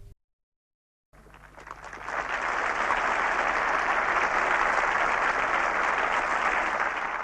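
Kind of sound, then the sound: crowd, crowd cheering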